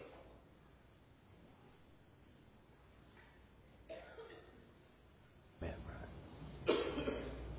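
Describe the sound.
A few rough coughs break through a quiet room, the last ones louder and closer, with some faint voice sounds around them.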